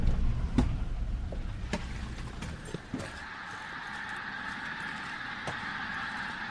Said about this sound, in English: Lines and lines of pink-footed geese rising up through the sky towards the sun, which is misted by the low cloud.